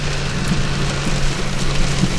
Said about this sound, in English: The skies have suddenly turned black, and I've never seen so much thunder and lightning and rain in all my life.